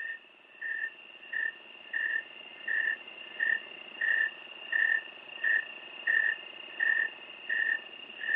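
A snowy tree cricket chirps in a steady, even rhythm, about a dozen clear, high-pitched chirps evenly spaced over several seconds, with a faint constant insect hum underneath and no voices.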